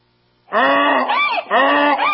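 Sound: donkey braying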